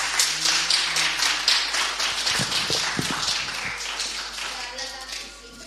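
An audience applauds steadily for the president of the charity association Asido as he is given the floor, a dense wash of many hands clapping at a fairly loud, even level that tapers off slightly toward the end.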